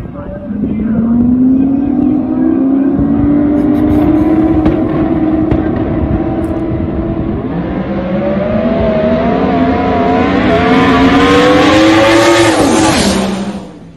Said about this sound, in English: You got to understand, this is a 302 cubic inch coyote zinging at 9,800 RPMs.